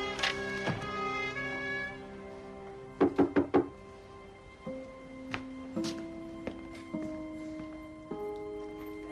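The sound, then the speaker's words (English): Four quick, firm knocks on a door in a tight burst, sounding over a soft, sustained musical score with no voices. “William answers his door.”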